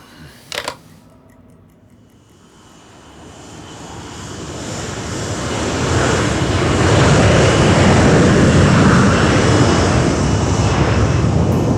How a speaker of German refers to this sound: So kam es, dass ich am späten Donnerstagvormittag nervös auf einem sündhaft teuren Fensterplatz hockte, während mein Flugzeug sich dröhnend in die Luft erhob. In meinen Ohren rauschte es.